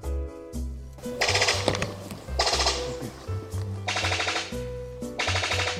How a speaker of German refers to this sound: Das war der Epimachus. Hoffe, ich habe es richtig ausgesprochen. Das ist eine Gattung aus der Familie der Paradiesvögel.